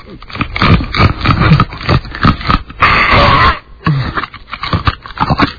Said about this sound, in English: Now, I don't think you're allowed to put your fingers in your mouth. No, I have to. Are you, he has to chew the ice. Is like chewing ice hard for you,